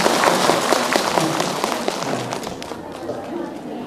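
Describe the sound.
A crowd of several hundred people at a Buddhist assembly applauds with dense, steady clapping that stays loud, then gradually thins and fades over a few seconds, with some voices mixed in.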